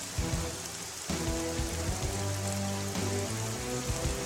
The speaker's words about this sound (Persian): بارون گرفت. با مشت طوفانی که زد هوا رو عوض کرد؟ آره، شرایط جوی تغییر کرد. خدای من، با مشتش هوا رو بارونی کرد.